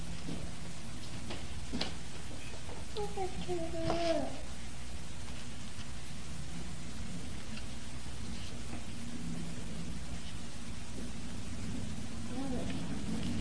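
Steady, even hiss of rain falling throughout, moderately loud, with a couple of brief high-pitched vocal sounds rising over it early on and again near the end.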